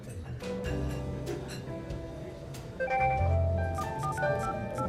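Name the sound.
mobile phone keypad tones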